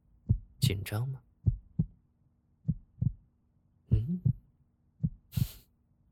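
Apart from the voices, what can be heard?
heartbeat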